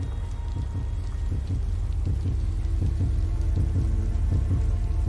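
Steady rain pours down with a dense, constant hiss, while the soft low thumps of a heartbeat pulse underneath at a slow, regular pace. No one speaks.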